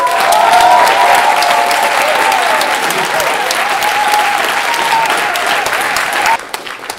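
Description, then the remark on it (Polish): Loud, sustained applause from a large audience as a golden disc award for debut of the year 2023 is announced, dense clapping for several seconds with a faint sustained tone beneath, then cutting off abruptly near the end. “Złoty krążek wędruje do zespołu …. Brawa!”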